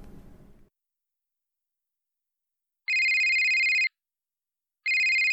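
A telephone rings in two sustained electronic bursts, each about a second long and separated by a pause, loud, after a brief low rumble at the start; no one speaks.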